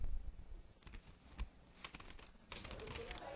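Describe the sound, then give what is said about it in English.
A paper prayer rug printed with a picture of Jesus crinkles and rustles as it is unfolded and handled, in a series of short, dry crackles that grow busier and denser toward the end, fairly quiet. “It's paper. What'd I tell you? They're not even trying. This is paper.”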